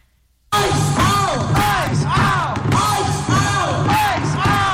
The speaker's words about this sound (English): It was 10 degrees below zero Fahrenheit when a crowd numbering in the tens of thousands marched through downtown Minneapolis Friday afternoon, calling on ICE to get out of Minnesota.